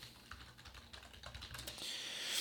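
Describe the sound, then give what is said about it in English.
A series of sharp, irregular mouse clicks sounds close to the microphone, with no voices and a low hum plus rising hiss underneath. “And I know that you just love the sound of my mouse clicking right next to my microphone.”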